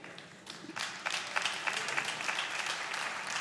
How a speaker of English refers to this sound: It's a bit of a feeble clap because many here don't even know what that means.